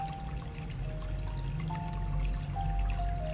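Spring water flows in a steady, continuous trickling rush, with soft sustained musical tones drifting above it and no voices.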